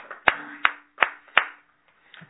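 A group claps in unison at a morning service to celebrate a congregant's 37th birthday: four sharp, evenly spaced claps in a steady rhythm, followed by a couple of faint, scattered softer claps as it trails off. No one speaks.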